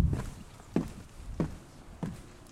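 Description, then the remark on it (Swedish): Footsteps on the wooden stairs at Tormodens trappor in cold, slightly windy weather: four heavy, evenly spaced thuds about two-thirds of a second apart, each with a hollow low knock and a short creaky tail, with no talking. The stairs were replaced a little over two years ago. “Jag tar och går lite i trapporna så får ni höra.”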